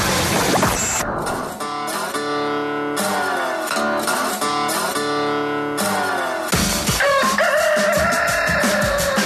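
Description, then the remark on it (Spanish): A rooster crows loudly, a long drawn-out cock-a-doodle-doo with a strained, raspy tone, followed by another harsh burst of crowing near the end. No one speaks. “Gallo por Radioactiva.”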